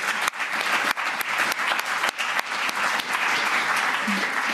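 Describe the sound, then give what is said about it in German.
An audience claps loudly and steadily for the event stewards who are taking part: a dense wash of many hands with a few sharper individual claps standing out, sustained throughout without any speech. “Für diesmal einen Applaus geben, weil die sich hier echt voll mit einbringen.”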